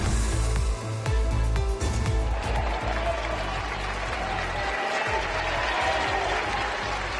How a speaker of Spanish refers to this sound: Este sonoro aplauso ha recibido Salamanca hoy, esta mañana, al rey Felipe VI en la Plaza Mayor de la ciudad castellana, escenario de la conferencia de presidentes.